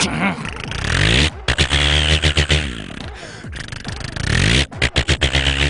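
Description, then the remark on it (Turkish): A man's voice mimics a tractor engine, a loud, rough, low chugging drone that rises in bursts, with rhythmic sputtering pulses as the imitated engine revs and idles. “Bu da traktör.”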